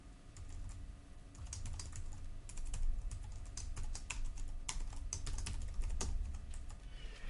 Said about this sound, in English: Notice when I finish typing the full name of the class that there's two things that underscore that class name.